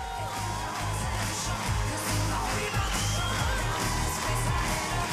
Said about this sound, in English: People in the audience stand and clap in rhythm.